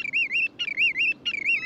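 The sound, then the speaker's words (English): A bird calls three times in quick succession, each phrase a loud, wavering whistle that rises and falls in an insistent yet musical rhythm, with no other sounds. “What they all have in common, wherever they have bred and wherever they spend the winters, is that unmistakable voice, combining the insistent petulance of a hungry chipmunk with the lyrical rhythms of a whippoorwill.”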